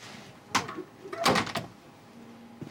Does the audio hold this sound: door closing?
yes